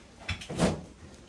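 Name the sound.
refrigerator door opening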